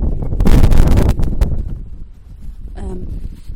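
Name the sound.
wind blowing outdoors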